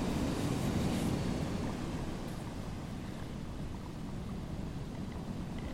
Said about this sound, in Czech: Vidíš, jak voda utrhává kusu země? Vidíš to? Tohle odtrhává.